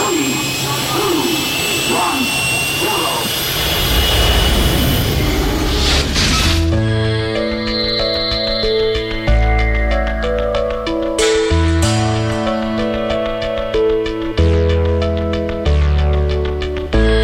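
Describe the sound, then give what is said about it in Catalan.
A loud, rushing engine roar builds and swells for several seconds as the ship La Fall Lluna takes off, then cuts off abruptly as sustained tonal music takes over. “Som a punt d'enlairar-nos amb la nau La Fall Lluna.”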